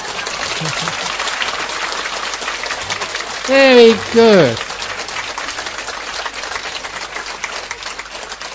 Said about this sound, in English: Oh, come on. If you're going to clap, do it properly.